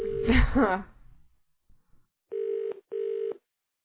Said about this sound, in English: I'm going to call someone, okay? Oh, you got a number now, huh? Yeah, I got a number now. All right. What's this all about? Oh, it's ringing. Good.